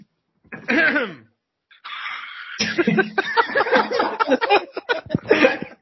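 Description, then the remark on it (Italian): A short vocal burst, then a raspy, deliberate preparatory cough and throat clearing, followed by a few seconds of dense, chuckling vocal sounds. “Il colpo di tosse preparatorio.”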